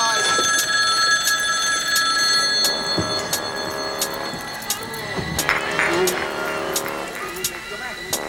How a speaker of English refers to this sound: So we let the phone ring.